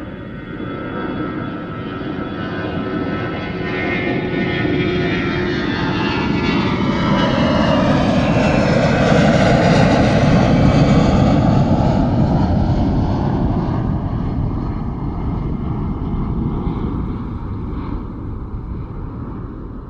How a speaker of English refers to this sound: Well, a Russian plane called an Antonov, which is the largest cargo plane in the world, took off. It took off in our direction, meaning that after liftoff, it was maybe 100 feet above us as it was roaring into the sky.